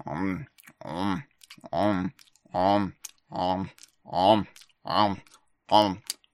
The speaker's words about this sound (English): Well, be glad I didn't do all 100 chews like I was originally going to do before I realized that would just be terrible podcasting.